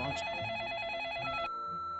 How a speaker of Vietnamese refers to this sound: Ba mẹ ơi, mau đến nghe điện thoại